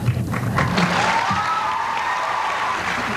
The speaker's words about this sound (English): I'm not going to tell George you clap more for Ferris than you clap for George.